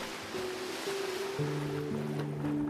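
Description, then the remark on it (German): A steady rushing wash of sea water and surf as a scuba diver takes a giant stride into the sea, at moderate loudness, with sustained low musical tones humming underneath; no distinct splash stands out. “mit einem riesigen Schritt lässt du dich ins Wasser plumpsen. Zeitgleich springt auch Gozo ins Meer”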